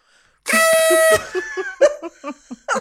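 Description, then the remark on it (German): A toy party horn gives one loud, buzzy, steady toot lasting under a second, followed at once by a burst of choppy laughter. “Natürlich habe ich die Tröte dabei, hat sie schon totgelacht.”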